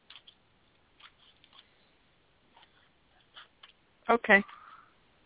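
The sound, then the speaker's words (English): A deck of animal picture cards is shuffled softly in short, uneven bursts of flicking and riffling before cards are pulled for someone, quiet, before a person speaks briefly near the end. “Let's pull some cards for you, okay? Okay. That would be great. Tell me when to stop shuffling.”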